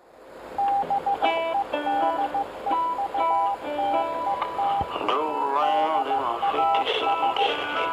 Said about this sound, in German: Der Empfang ist wackelig. Rauschen, Morsezeichen und Funkgeräusche stören die Sendung von … und …. Und der schlechte Empfang ist Absicht.